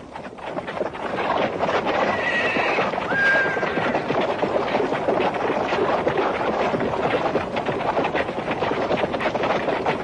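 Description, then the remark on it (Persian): Horses ridden by a group of Kazakh women whinny in short, high, wavering cries over a steady, dense patter of hooves clip-clopping at Nilki in the Tian Shan mountains, with constant rushing wind noise filling the background throughout. “در محلی به نام نیلکی واقع در کوهستان تیانشان به گروهی از زنان قزاق که سوار بر اسب بودند برخوردیم و سپس گروهی دیگر که از سوی دیگری می آمدند.”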